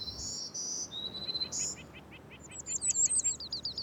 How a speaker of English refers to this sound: 66 years ago, in 1959, you might have heard a completely different song. You probably would have heard three times as many black-throated green warblers.